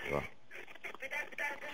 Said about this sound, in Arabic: خفضي بس صوت التلفزيون شوية عشان خفض الصوت عشان فيه صدى.